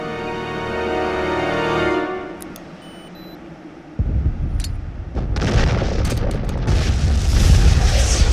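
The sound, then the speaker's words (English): A sustained tone gives way to a deep, heavy blast, followed by rumbling booms and crackling, debris-filled roars that build in intensity, as several large explosions erupt throughout an ancient city, destroying its skyline. “Explosions erupt throughout the city, decimating its ancient skyline.”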